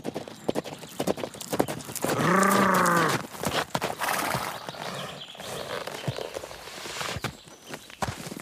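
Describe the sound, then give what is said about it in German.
The hooves of an approaching rider's horse clip-clop in a steady, rhythmic trot throughout, and a loud, wavering horse whinny rises over them for about a second early on. No one speaks. “Was ist das? Ein Reiternaht?”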